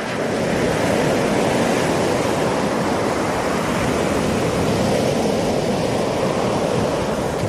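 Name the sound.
waves breaking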